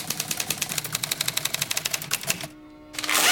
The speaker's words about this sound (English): He takes a drag of the cigarette in his right hand as his left pulls the carriage release lever, then resumes typing. He makes a face and starts to type faster and faster.